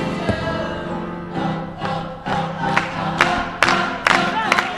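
crowd, audience cheering and clapping

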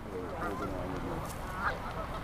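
bird, geese honking

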